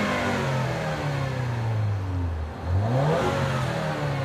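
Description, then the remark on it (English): The turbocharged engine of a Lincoln MKZ car with all-wheel drive and 19-inch wheels revs steadily, pitch sliding down then climbing again after a brief dip, loud with a throaty mechanical drone and no voices over it. “Sound of power.”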